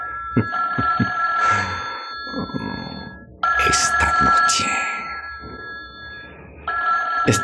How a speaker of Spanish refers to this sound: Espera, muchacho. El teléfono. ¿Quién puede ser?